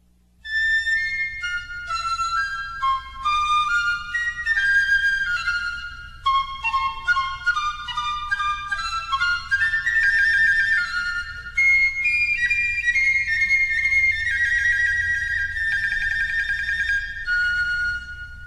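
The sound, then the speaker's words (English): Two Baroque pieces for teaching songbirds, from The Bird Fancier's Delight, a set collected in 1717, played on solo piccolo: quick ornamented runs and trilling phrases in a high register, steady and fairly loud, with no voices. “Two pieces from The Bird Fancier's Delight, played by Lawrence Trott.”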